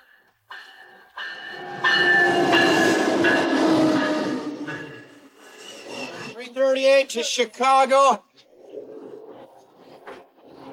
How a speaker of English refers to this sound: we're finally on a train. We're going to Chicago.